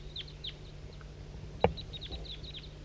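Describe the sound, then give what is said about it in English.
A flock of small birds keeps up a steady stream of high, thin, down-slurred chirps, overlapping in quick succession, with one sharp knock partway through and a low steady hum underneath. “4-3 at the tail top is calling in a flock of birds.”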